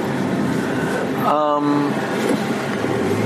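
A steady, dense roar of street traffic at a busy four-way intersection in Scarborough, vehicles passing from all directions, the wash of engines and tires continuous throughout, and a short tonal sound standing out briefly midway.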